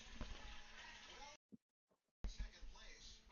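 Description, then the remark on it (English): Liquid is poured into a glass in two bursts of steady, hissing splashing, separated by a brief near-silent pause, filling the glass all the way. “He pours a little bit more into the cup.”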